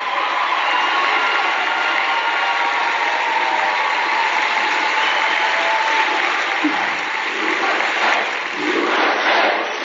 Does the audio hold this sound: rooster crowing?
no